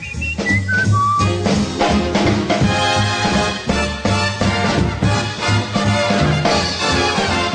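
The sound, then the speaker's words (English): A man whistles a bright, warbling birdlike tune, with quick trilling notes up front, carried over a loud, full band accompaniment that plays steadily throughout. “Oh, he whistles pretty. Yeah, like a bird.”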